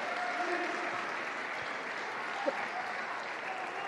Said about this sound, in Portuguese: Pode aplaudir, Jesus.